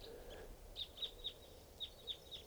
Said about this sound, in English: Flock of big flock of crossbills just flew in here. Sound like type twos must be about 10 or 12 birds.